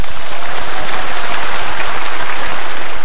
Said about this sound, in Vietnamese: Bác nói câu đó hay lắm, làm tràng pháo tay.